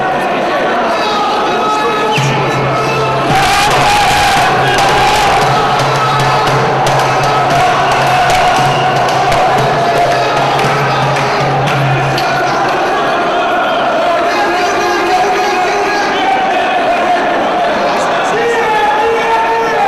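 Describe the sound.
A large crowd of Orthodox Arabs chants and shouts together inside the Church of the Resurrection (Holy Sepulchre), a dense, loud wall of overlapping voices that continues steadily for the whole stretch, with a low sustained tone running underneath for a while.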